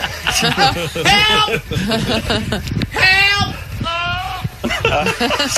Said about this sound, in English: Turns out that call for help came from a goat. We ran. The noise it made sounded like help from a distance.